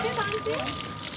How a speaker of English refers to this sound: This is a water tank and there's a man doing laundry. Hello. Are you washing your clothes?